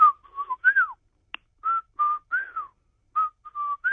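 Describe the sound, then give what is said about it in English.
A person whistles an imitation of a whippoorwill call, repeating a clear, mid-pitched phrase three times, each with short notes and a swooping rise and fall, with no talking. “I haven't heard this sound of a bird since I was a youngster, and that's with a Red Ryder BB gun, which I didn't shoot the birds, but it goes like this.”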